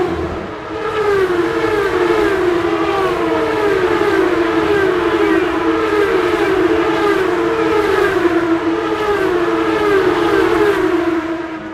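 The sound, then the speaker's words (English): Race car engines revving at the Long Beach Grand Prix in Long Beach scream in a continuous, loud, high-pitched whine whose pitch wavers up and down in overlapping waves for the whole stretch, over a steady rumble, with no voices. “The engines revving.”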